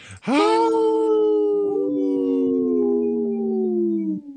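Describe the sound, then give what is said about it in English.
Three wolf howls together, long sustained tonal cries that rise sharply then hold and slowly drift down in pitch, overlapping voices layered for about four seconds, loud and steady with no talking. “Yeah, I could hear three howls.”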